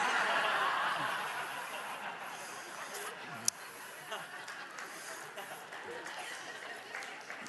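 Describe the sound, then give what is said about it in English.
A crowd claps and laughs together, a dense, steady wash of applause mixed with chuckles and snickers that fades slightly over several seconds, with one sharp clap standing out midway. “People clapping own that lawnmower, don't they?”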